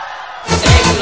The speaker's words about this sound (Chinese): 手仔举起来。我想听到清远最大声的尖叫声。